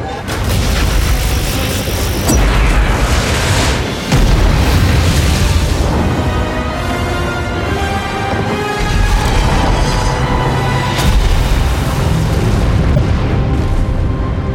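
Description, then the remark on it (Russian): Artillery fire and explosions boom in heavy, repeated blasts over a constant loud roar, with sharp hits near the start and around four seconds and sustained tones running beneath, as fire is opened in the last battle for Argus. “Открыть огонь!”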